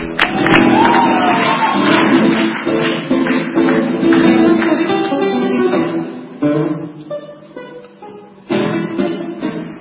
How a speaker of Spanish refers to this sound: Gracias, te vamos a dar un aplauso. Muchas gracias.